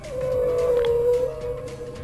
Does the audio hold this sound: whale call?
yes